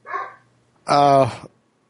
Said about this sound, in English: Like, now that we've got a 2-story house, he can, like, see out the windows or whatever, and so he can, like, tell what's going on around here. And, like, whenever he sees someone else next door or whatever, that gets him barking.